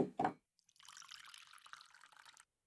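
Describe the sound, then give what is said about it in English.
Sparkling water is poured into a glass: two quick clunks at the start, then a steady, bright fizzing pour lasting a couple of seconds before stopping abruptly. No voices. “They're out of the good stuff, but there's still some sparkling water here. Would you want a glass? We can pretend it's champagne if you want. Here, let me pour you some.”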